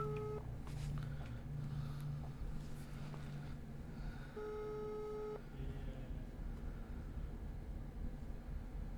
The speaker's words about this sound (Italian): Sta squillando. Speriamo che insomma senta chiamate.